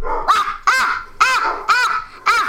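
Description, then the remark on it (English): A dog barks five times in a quick, fairly even rhythm, each bark sharp, with no voices around it. “Of course, he's just going to bark.”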